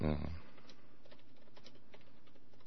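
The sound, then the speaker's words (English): A brief voice at the start, then fast, steady clicking of keys on a computer keyboard, fairly quiet, continuing in an irregular patter to the end. “here, my keyboard.”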